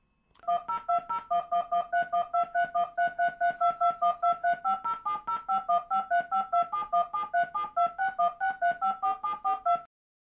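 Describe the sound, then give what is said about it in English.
A rapid, steady sequence of DTMF touch-tone beeps, each a short two-pitch burst, dozens in a row over about ten seconds, encoding the alphabet as dual-digit tones of the DTMF BIOTD grade 1 braille 6-bit codes. The tones shift pitch pair by pair, with no voices. “Second, the alphabet dual-digit tones.”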